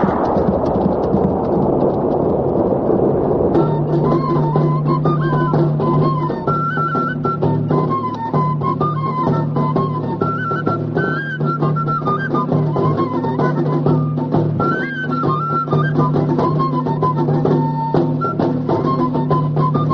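Heavy, steady rain pours throughout with low rumbling thunder, loud and close. After a few seconds a tonal melody joins and continues over the downpour. No one speaks.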